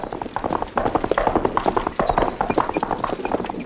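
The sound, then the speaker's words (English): Many hoofbeats clatter in a dense, continuous rhythm, several horses trotting with sharp percussive clops over a broad rumbling noise. “I hear horses.”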